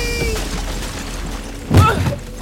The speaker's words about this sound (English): Kevin came crashing through the attic door, slamming into the floor behind Ricky.